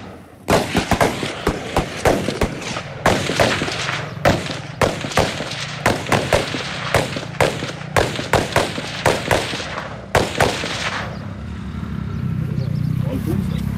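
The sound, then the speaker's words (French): Rapid, irregular bursts of gunfire from riders on patrol motorcycles, one firing from the left shoulder, dozens of loud sharp cracks over about ten seconds, then a low steady rumble as the shooting stops. “He's using left shoulder to fire over there.”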